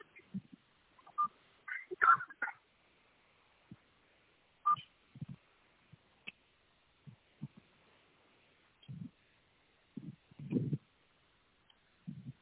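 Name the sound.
phone ringing unanswered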